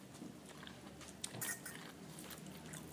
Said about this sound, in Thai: เคี้ยวอยู่